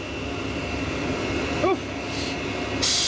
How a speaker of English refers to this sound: Yeah, wait for the bus to pull out.